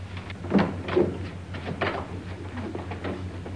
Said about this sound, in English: Open that closet door.